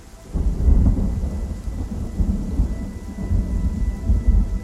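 Steady rain pours down over a meadow while deep, rolling thunder rumbles continuously underneath, loud, with no voices present.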